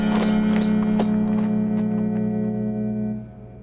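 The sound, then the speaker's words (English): A saddled horse's hooves clip-clop in a quick series of sharp knocks, over a steady low hum, while a neigh rises briefly before the sounds fade out. “I reckon I'll leave this horse and saddle at the livery and take the next boat north.”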